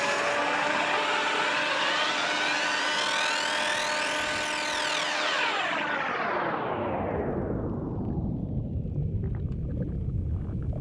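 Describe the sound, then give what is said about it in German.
A loud, steady motor whir from an immersion blender finely pureeing a cooked soup mixture runs the whole time, its high-pitched whine sweeping down as the blades churn through the food. No one speaks. “Nachdem das Ganze etwas gekocht hat, wird es mit dem Pürierstab fein püriert und durch ein Sieb gestrichen.”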